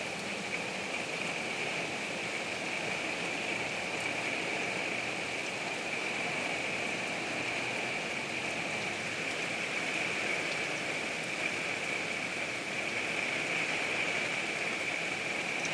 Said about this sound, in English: This seems like the kind of storm that may not last all day. I don't think it's going to.